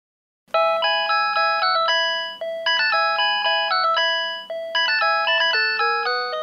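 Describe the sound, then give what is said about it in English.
A mobile phone ringtone plays a bright, synthesized rendition of Vivaldi's Four Seasons in quick repeating phrases, loud, with no one speaking. “These days, we hear Vivaldi's Four Seasons everywhere. They're on mobile phones.”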